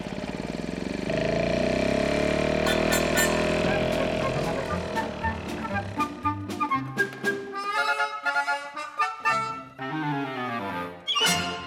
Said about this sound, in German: In der Zwischenzeit, damit einem nicht langweilig wird, draußen im Garten Rasen mähen